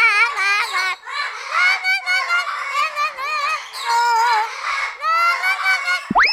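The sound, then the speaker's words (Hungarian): A parrot squawks loudly and almost nonstop, harsh, raspy calls tumbling over one another for several seconds with only brief pauses and no voices. “A műsorszám papagáj megjelenítést tartalmazott.”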